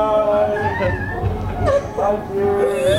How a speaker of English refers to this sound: it's kind of like a muffled fangirl whimper that you would only do if you really loved this band.